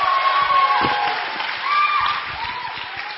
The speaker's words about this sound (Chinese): 我们用最热烈的掌声来欢迎他。